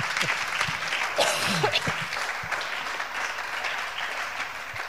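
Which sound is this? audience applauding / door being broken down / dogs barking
audience applauding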